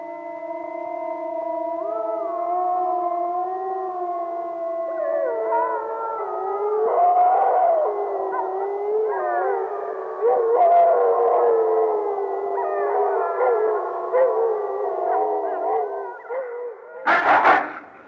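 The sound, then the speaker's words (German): Several wolves howl together in a sustained, overlapping chorus of long rising and falling tones, joined by more voices midway, ending with a brief noisy burst near the close. “Immer öfter kann man daher auch ihr unheimliches Heulen hören, mit dem sie den Zusammenhalt des Rudels festigen und verlorene Artgenossen rufen.”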